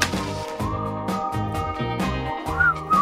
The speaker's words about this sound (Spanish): Estamos hablando de temas con silbidito y vamos.